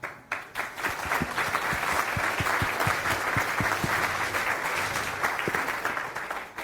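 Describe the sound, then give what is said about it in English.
An audience applauds to welcome a speaker giving a talk on low-code graphical user interfaces in Python, with dense, steady clapping that swells quickly and holds at a fairly loud level for several seconds, then begins to thin out toward the end. “Round of applause!”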